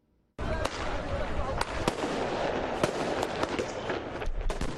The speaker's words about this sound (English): Protesters launched fireworks at Lebanese security forces as night fell Wednesday evening during the clashes in Beirut.